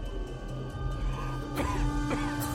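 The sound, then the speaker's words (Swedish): Steady roar of heavy factory machinery, its engines grinding with a constant low rumble and mechanical hum, broken by sharp clattering bursts and clanks midway and near the end. No voices. “Maskinerna dränker alla mänskliga ljud och deras dånande motorer slutar aldrig att mala.”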